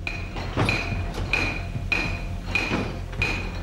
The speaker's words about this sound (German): Deshalb waren die Schmelzen, wie auch die Hammerwerke zur Weiterverarbeitung des Silbers, an Flüssen oder Bächen errichtet, wie der Frohnauer Hammer, ein Hammerwerk aus dem 17. Jahrhundert bei Annaberg-Buchholz.